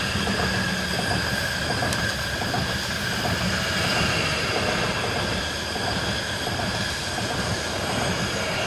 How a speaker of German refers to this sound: Es kommt aber ein Zug, gell, jetzt müssen wir schnell stoppen.